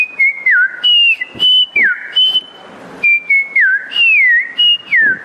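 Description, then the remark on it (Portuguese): A female agronomist whistles an imitation of a green-winged saltator's song, repeating clear, bright phrases with falling slurred notes in a lively rhythm, loud, with no talking. “Trinca-ferro.”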